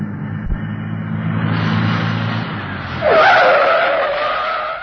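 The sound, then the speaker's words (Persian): A truck engine rumbles as it approaches, then its tires break into a loud, sustained screech, skidding hard to a stop as someone jumps in front of it. “تا کامیون رسید من میپرم جلوش، تا بازتر شما ها سوار شید.”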